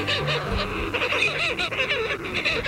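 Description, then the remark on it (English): A dense chorus of harsh, crooning short-tailed shearwater calls, many seabirds overlapping continuously with no pauses, loud and busy throughout. “Seabirds, like this short-tailed shearwater, spend most of their lives on the open ocean.”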